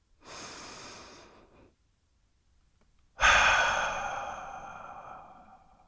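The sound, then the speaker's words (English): A deep breath: a soft, airy inhale lasting about a second, a brief pause, then a longer, louder exhale that starts strongly and slowly fades away. No talking. “So, if you're ready, let's take a deep breath.”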